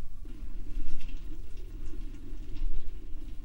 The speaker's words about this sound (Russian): Слышите? Да, журчит. Кран.